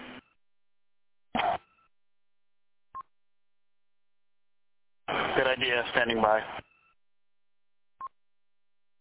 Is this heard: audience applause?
no